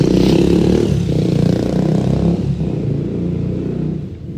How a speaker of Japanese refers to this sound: バイク、今のバイク、ふかしたな。